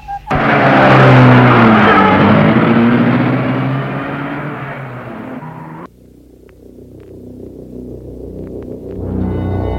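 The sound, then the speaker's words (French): A car engine bursts to life as the car is started and revs loudly, its pitch rising and falling, then cuts to a quieter steady rumble that builds again as the car pulls away. “Entre dans la voiture et démarre.”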